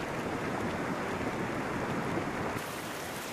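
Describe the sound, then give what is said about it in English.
A steady, dense rush of slushy frazil ice flowing down Yosemite Creek, a constant hissing, granular wash of water and ice particles in a slurry, with no voices. “The particles of ice wash down the stream with the liquid water in a slurry, a slushy, slurpy, goopy mass that in many cases flows like lava.”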